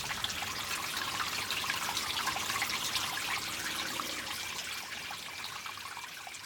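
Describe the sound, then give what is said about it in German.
Spring water trickles and flows steadily, a continuous bright bubbling and splashing, with no voices and no pauses throughout. “Wir hören die Quelle. Wir sehen das Wasser fließen.”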